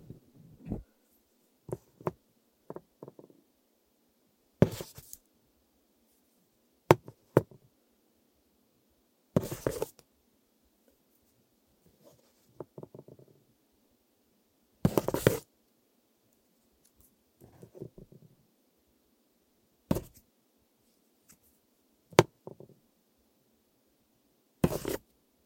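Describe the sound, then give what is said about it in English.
A pen is picked up and handled: several sharp, bright clicks and taps at irregular intervals, with soft scraping and rustling between them and no voices. “This is picking up a pen.”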